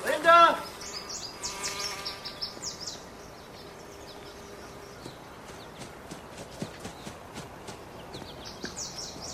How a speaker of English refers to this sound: Bees attend an apple tree with ripe red fruit.